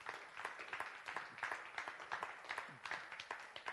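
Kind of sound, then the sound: crowd, audience clapping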